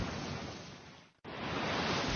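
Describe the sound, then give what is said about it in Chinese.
A steady, hissing roar of ocean waves washing onto a beach, dropping out for a split second midway before the rushing surf resumes at full strength. “大男孩走到海滩上坐了下来，他把一只贝壳放在耳朵上，倾听海浪涌向海滩的声音。”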